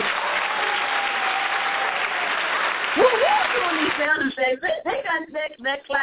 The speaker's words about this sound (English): That clap was uncalled for. Gotta give a shout out to the sound people.